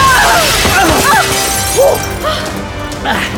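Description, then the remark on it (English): A pane of glass shatters loudly as someone leaps through it, a broad crash followed by bright tinkling shards scattering and settling over a few seconds. “Yes, that was a spectacular leap through that pane of glass.”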